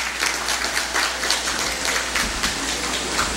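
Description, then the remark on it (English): An audience at an afternoon event at PCMC applauds to welcome the program leader, a university dean, many hands clapping at once in a dense, crackling wash of sound that holds at an even, fairly loud level throughout, with no voices heard. “Let's all give him a warm round of applause.”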